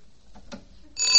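A single soft knock on a front door is followed by a doorbell ringing with a loud, shrill metallic jangle that starts suddenly near the end and keeps going.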